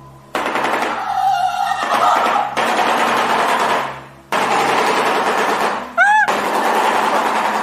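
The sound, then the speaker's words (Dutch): A bird's call made of rapid, harsh, rattling bursts like machine-gun fire, loud and continuous with brief pauses, ending with a few rising whistled notes. “Ze klinken als een AK-47, een automatisch geweer.”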